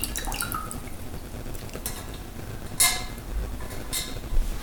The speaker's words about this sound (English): Let me also drink a little water here.